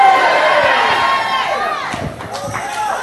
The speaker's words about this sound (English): Now I know it's Sunday afternoon and you're not used to shouting in church, but just say with me, my deliverance.